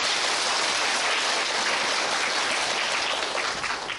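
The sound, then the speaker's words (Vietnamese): A crowd applauds steadily, a dense wash of many hands clapping at once, loud and sustained for the full length before easing slightly at the very end. “À rồi, xin cho tràng pháo tay.”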